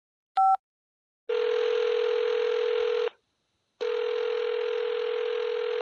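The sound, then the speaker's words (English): A short electronic beep, then a cell phone's ringback tone: two long, steady buzzing rings separated by a pause, clear with no voices. “Use my cell phone. His number is on there. Find his name and press the button.”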